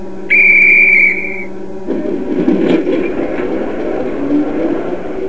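A loud, steady train whistle blows for about a second and a half, then cuts off as a low, rumbling engine chugs into motion and keeps churning underneath.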